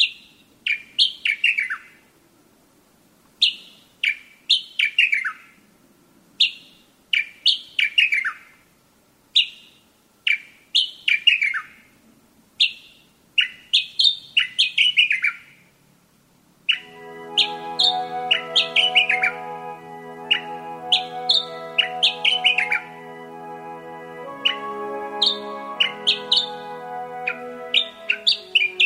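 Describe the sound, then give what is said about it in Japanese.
A Sakhalin grasshopper warbler in Tomakomai, Hokkaido, Japan, sings loud, short repeated phrases of clear descending whistles every couple of seconds; midway a steady droning, tonal background sound rises beneath the ongoing song. “朝の小鳥、今朝は北海道苫小牧市のエゾ潜入の声をお届けしました。”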